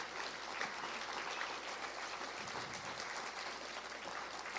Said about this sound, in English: So let's give them a round of applause. So it's going to be a lot of clapping.